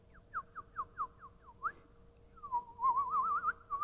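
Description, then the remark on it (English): A person whistles like small birds: a string of about eight quick, evenly spaced chirps, then a longer warbling, trilling whistle. Clear and close, with no talking. “You'd rather be in there where the crops are coming up and there's little birds whistling.”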